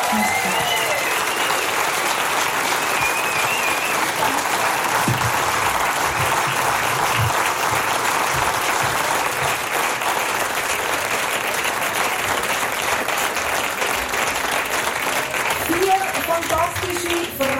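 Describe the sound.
Sustained audience applause, a dense, steady roar of many hands clapping that holds at an even, loud level for the whole stretch, with faint cheers and voices mixed in.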